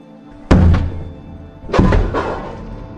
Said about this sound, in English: Then, 2 days later, just after lunchtime. Okay. An undercover officer knocks on her door.